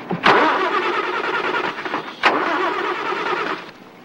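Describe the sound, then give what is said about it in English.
A car engine, its hood raised, is started twice by someone reaching over the driver's door for the ignition, each attempt opening with a sharp crack followed by a loud, rough, sputtering churn that holds steady before trailing off. No one speaks. “Mancini climbs over the driver's door and reaches for the ignition.”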